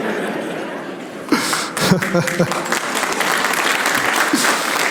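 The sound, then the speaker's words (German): An audience at a magician's show claps steadily for several seconds, a dense, crackling wash of applause that swells after a quieter start, with a few scattered chuckles and murmurs mixed in. “Also, euer Klatschverhalten sollten wir nochmal bedenken.”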